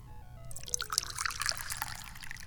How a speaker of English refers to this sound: which is good because now I can pour the tea.